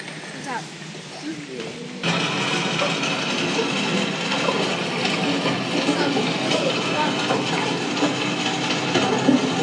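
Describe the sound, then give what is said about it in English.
A steady, loud rush of water under pressure in a pipe surges in after about two seconds and continues as a dense, hissing roar, with faint voices audible beforehand. “That sounds like water under pressure, doesn't it?”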